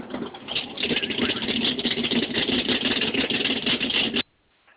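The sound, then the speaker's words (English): A steady, dense hum of motors drones continuously for about four seconds with a rough mid-range rumble, then cuts off abruptly into near silence. “You can hear the motors.”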